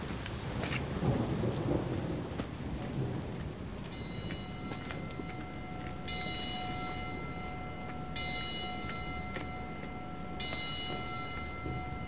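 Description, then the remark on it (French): Steady rain pours down continuously outside a cathedral, a dense hiss throughout with low rumbling beneath and a faint high tonal whine appearing partway through; no voices. “Il reste un moment sous la pluie, puis entre par le portail principal.”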